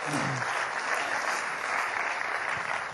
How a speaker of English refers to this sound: Okay, well done. Give the man a round of applause. Thank you.